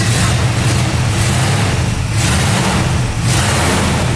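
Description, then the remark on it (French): A loud, deep V8 car engine rumbles, its throaty roar swelling and easing in steady revs across the few seconds, with no voices. “Le charme du son V8, exceptionnel.”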